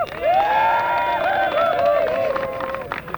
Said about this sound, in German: Vielleicht nochmal ein Beifall, ne?